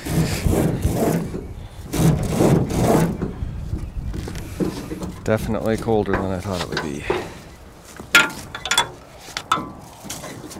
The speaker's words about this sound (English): With the wind blowing off Holmes Lake, it feels about 0 degrees as I record an aluminum boat and yellow canoe being dragged off a trailer.